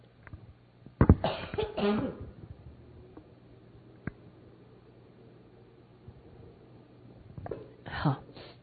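A person coughs, a sharp hack followed by a rough, throaty burst, then a quiet pause before another short pair of coughs near the end.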